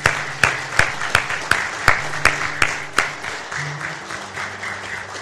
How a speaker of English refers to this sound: First of all, friends, let's celebrate. Let's clap. Let's give praise to God for these four who have stood.